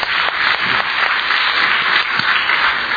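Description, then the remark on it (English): An audience applauds steadily for a student from China who stands up, a dense wash of many hands clapping at once with a few sharper individual claps standing out, sustained at an even loudness throughout. “would you stand up so everyone can clap?”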